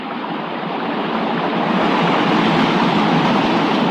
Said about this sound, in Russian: Ладья рухнула вниз, проскрежетала днищем по камням. Тяжелая волна накрыла Алешку с головой.